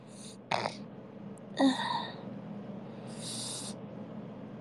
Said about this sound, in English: Ugh. Sorry, I keep sniffling.